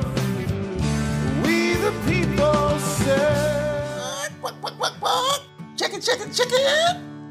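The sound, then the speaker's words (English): A chicken clucks in a string of short, squawky bursts near the end, following a stretch of steady music; the clucks are fairly loud. “Chicken.”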